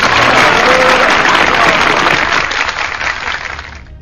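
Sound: applause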